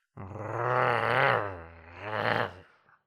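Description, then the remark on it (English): A deep, rumbling wolf growl rises and swells for about two and a half seconds, loud, then trails off into silence. No talking. “She ran to the house, but then she heard a growling noise.”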